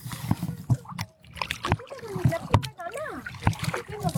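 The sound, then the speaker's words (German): Water splashes and sloshes repeatedly as a Canadian canoe is pushed into the water, with sharp bursts of spray over a steady rushing background on a windy day while a child and others talk. “Ja, der schiebt uns das ins Wasser.”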